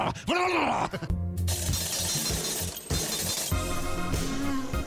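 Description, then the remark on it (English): Laundromat clatter: a loud, continuous metallic rattling and clanking over a steady low machine hum, opening with a brief squealing whine that rises and falls. “Sweet sounds of a laundromat.”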